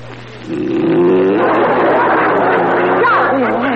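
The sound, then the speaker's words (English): A loud, rasping snore starts after a brief pause and drones on without a break, rough and buzzing, its pitch wavering and sliding upward near the end. “What am I supposed to do while you grind away like a buzzsaw?”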